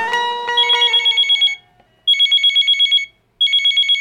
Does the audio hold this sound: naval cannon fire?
no